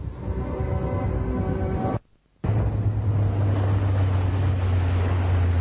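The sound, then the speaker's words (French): An outboard motorboat heads far out to sea, beyond territorial waters, droning steadily on open water, its engine hum mixed with rushing wind and waves; the sound cuts out briefly, then returns with a deeper, louder engine rumble. “Arrivé en dehors des eaux territoriales, le professeur arrête le bateau et se prépare alors à ouvrir le conteneur et à rejeter l'ultimatum à la mer.”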